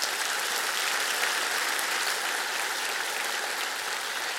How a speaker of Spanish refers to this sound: Vamos a dar un aplauso y ya está bien.